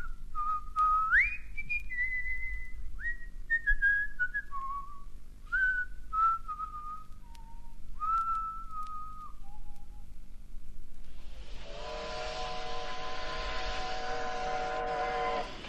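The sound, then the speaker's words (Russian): At a railway station, a wavering, tune-like whistle glides between pitches for several seconds. Then a loud steam locomotive whistle bursts in with a rush of hissing steam and holds steadily to the end. “Вокзал с его разноголосою сутолокою, грохотом приходящих поездов, свистками паровозов, то густыми и сердитыми, как голос Осипа Абрамыча, то визгливыми и тонкими, как голос его больной жены,”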